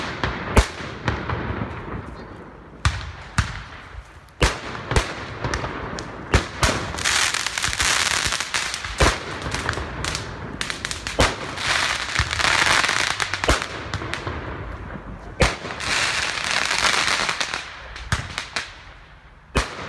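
Fireworks set off to celebrate Ramadan go off in a dense, irregular barrage of sharp bangs and crackling bursts, loud and continuous throughout, with no voices heard over the explosions.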